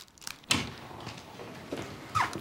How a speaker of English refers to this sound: Chris opens the door.